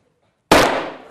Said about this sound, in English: If we apply if we mix the gases in just the right ratio, we should be able to get a bit of a bang. So I'm not going to put this burning magnesium into it, just going to hold it near the tube.